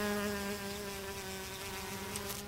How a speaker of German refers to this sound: Nein, du brauchst keine Angst zu haben. Ich stech nicht gleich zu. Ich bin eine äußerst sanftmütige Biene